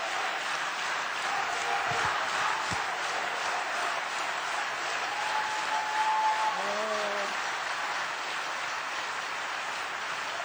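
A large audience applauds steadily, a dense wash of clapping that holds at an even level throughout, with a few faint tonal sounds briefly rising above it near the middle.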